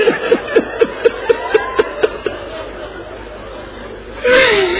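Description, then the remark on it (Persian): A crowd of mourners weeps and wails in quick, rhythmic, loud sobbing bursts, then the voices swell into a louder, rising cry near the end. “خدایا اینا اینجا اینجوری گریه میکنم، اگه اینا کربلا برن چه جوری گریه میکنم.”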